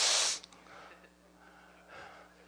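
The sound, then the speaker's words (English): A single sharp, exaggerated sniff, loud, made by a person imitating Barney Fife's snooty nasal sniff, followed by faint breathing and quiet background noise. “I mean, you know the Barney Fife sniff?”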